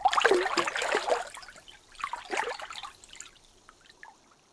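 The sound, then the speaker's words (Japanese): Lively splashing of water as someone lowers waist-deep into a hot bath tub, with bursts of sloshing and trickling that ease off into quieter dribbles. “では、お湯に浸かっていただきながら、猫名館またたびの湯の炭酸シャンプーにて、頭を洗ってまいります。”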